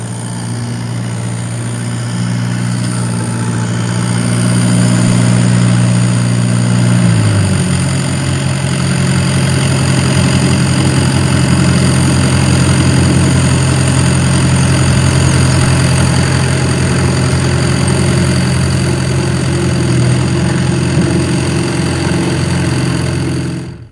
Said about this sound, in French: Puis il sort de la porcherie et il entend le bruit d'un tracteur.